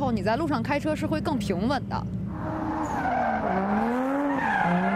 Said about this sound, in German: Doch es sieht gefährlich aus, wenn Sie mit hoher Geschwindigkeit mit Ihren getunten Autos über den Asphalt driften. Manchmal schlittern Sie nur wenige Meter an den Zuschauern vorbei, die einfach am Rande des Platzes stehen, vor der Absperrung.